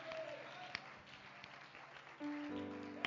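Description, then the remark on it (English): An audience at a church service claps steadily in praise in a dense wash of applause, with sustained organ-like tones underneath and a few sharper claps standing out. “Oh, give him a hand clap of praise tonight.”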